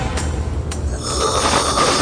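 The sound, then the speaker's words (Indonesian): A deep, rasping growl from a pocong, a ghost wrapped in shabby white cloth standing outside a bedroom and peeking through the open door, rumbles on without a break for about two seconds, menacing and throaty, swelling a little louder in its second half. “Dia terus berdiri sambil menggeram sangat menakutkan.”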